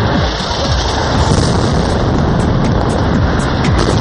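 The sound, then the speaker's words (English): A building in Gaza collapsing after being struck by a bomb: a dense, sustained roar of crashing rubble with deep rumbling underneath, holding steady and loud for about four seconds with no voices. “This is the moment a building crumples after being struck by a bomb in Gaza.”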